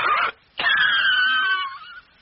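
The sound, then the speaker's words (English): A voice acts out a smoker's cigarette cough: one short rasping burst, a brief pause, then a longer wheezing hack with a thin whistling tone that slowly fades. “Actually, a less powerful cigarette cough can wreck your lungs pretty good. Like this.”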